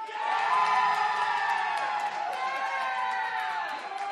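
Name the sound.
crowd cheering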